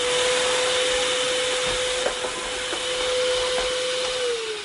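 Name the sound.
vacuum cleaner running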